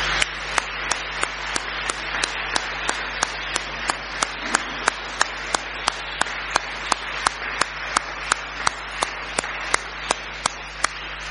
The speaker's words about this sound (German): Danke, dass ihr hier wart, danke, dass ihr diesen Gottesdienst mit uns und für uns gestaltet habt. Und ich denke, Sie haben ja schon gezeigt, was Sie können. Jetzt können wir denen schon mal einen ordentlichen Applaus geben als Dankeschön.